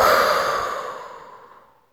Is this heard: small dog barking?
no